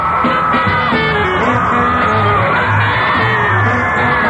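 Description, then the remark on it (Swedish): A dense crowd of teenage fans, many around 14, screams and shrieks continuously at an airport as Tommy Steele arrives, high-pitched whoops and yells overlapping in a loud, sustained frenzy with no pauses. “skrek och åbäkade sig och tjöt och grät”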